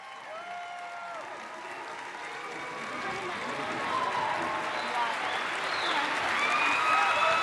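A large audience claps steadily, a dense, continuous patter of applause that swells slightly toward the end, with a few faint whistles and cheers mixed in.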